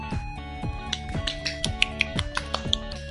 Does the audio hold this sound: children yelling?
no